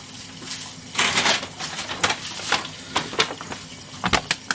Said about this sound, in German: du verraschelst die Aufnahme. Ja, sorry. Das passiert halt.